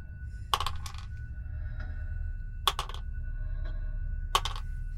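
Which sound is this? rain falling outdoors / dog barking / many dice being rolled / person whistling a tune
many dice being rolled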